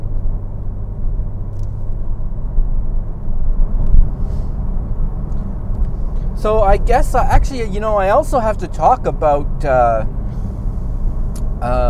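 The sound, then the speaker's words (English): A car drives along a newly paved road on Snake Hill, its steady low rumble of tire and engine noise filling the whole clip, with a man starting to talk over it about halfway through. “Now if the traffic would get out of the way, I'd be able to have some fun.”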